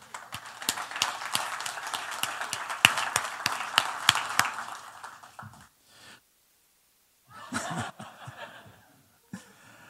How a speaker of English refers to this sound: So I'd like a round of applause for her.